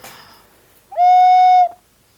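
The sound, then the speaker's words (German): A single sustained whistle tone from a clay whistle, blown steadily for under a second, clear and fairly loud with a flute-like, slightly breathy quality and a soft onset and release. “Das ist vom Klangbild her wie eine normale Blockflöte.”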